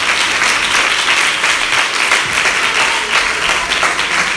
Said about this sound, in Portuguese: Antes de sentar, aplauda o Senhor. Aleluia.